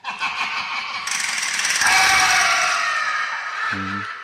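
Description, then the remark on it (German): A loud jingle plays on its own, a dense, bright wash of layered tones that swells after about a second and holds steady, closing with a few short low notes. “Das ist jetzt voll laut. Einfach so ein Jingle rausgehauen.”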